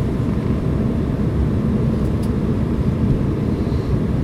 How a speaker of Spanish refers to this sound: Funcionan muy bien, por ejemplo, en los aviones, porque el ruido de un avión es predecible.